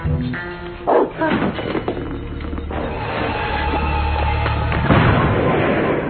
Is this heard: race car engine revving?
no